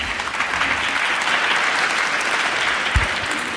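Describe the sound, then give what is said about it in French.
Sustained audience applause, a dense, steady wash of many hands clapping at even loudness for several seconds, with no one speaking over it. “Chaque série d'applaudissements vous accorde des points, donc c'est bien, vous êtes tous à égalité.”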